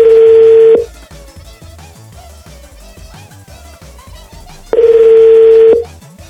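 A telephone rings on the line while calling: two long, steady, mid-pitched beeps separated by a gap of about four seconds. Soft background music fills the pause between them.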